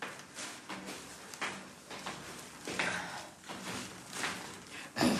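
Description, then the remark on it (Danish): A steady series of footsteps climbing the stairs of a building's stairwell to the first floor, each step a soft thud with a scuffing edge, about one every half second to second, with faint shuffling in between. “Så går vi op ad trappen. Jeg bor på første sal.”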